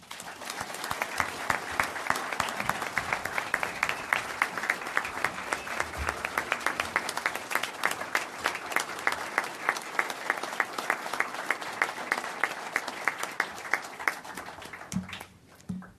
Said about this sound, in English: And congratulations to all of you, Commissioners Bott, Magazine, and Suarez. Big round of applause.